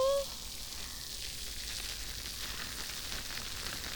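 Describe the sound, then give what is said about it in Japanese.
Lathered carbonated mint shampoo foam fizzes and crackles right by the ear, a steady, dense hiss of tiny bubbles popping continuously at a soft, even level with no talking. “耳元で炭酸の泡が弾けてるの、わかりますか？”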